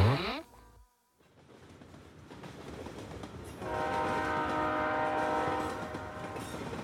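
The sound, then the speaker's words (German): A train rumbles along as it approaches a station, then its horn blares in one long, loud, steady blast for a couple of seconds before fading slightly, with the clatter of the train continuing underneath. “Ich sehe sogar schon den Bahnhof. Ob mich Mira und Kopi wohl am Gleis abholen?”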